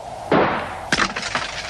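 A glass bottle is hit by a gunshot and shatters with a sharp crash, followed by a second burst of breaking glass and scattered tinkling shards, with no voices.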